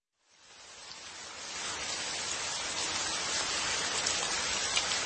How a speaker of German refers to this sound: Auf dem Heimweg wurde ich von einem Regenschauer überrascht und komplett durchnässt.